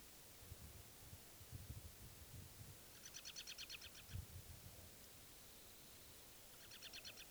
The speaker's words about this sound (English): That was the bird.